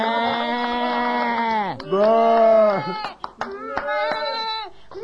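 A goat held in someone's arms bleats loudly: two long, quavering bleats in a row, followed by a run of shorter, broken cries that trail off.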